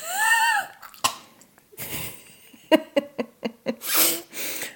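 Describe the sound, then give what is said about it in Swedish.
Two quick, breathy inhales through the nose without breathing out, with a short vocal sound before them and a run of small clicking puffs in between. “Andas in två gånger genom näsan. Utan att andas ut.”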